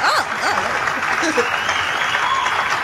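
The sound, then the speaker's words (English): A large crowd cheers, applauds and whistles for Bobby Jindal, with sharp rising and falling whistles cutting through the din in the first second or so before the roar carries on evenly. “Are those people cheering for Bobby Jindal?”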